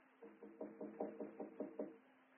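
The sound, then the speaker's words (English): Rapid knocking on an office door, about nine evenly spaced raps in quick succession, moderately loud, with a steady low hum underneath and no voices; a man knocking repeatedly at an office used for gambling. “So now Bill is at the door of what Jackson Westfield calls his office”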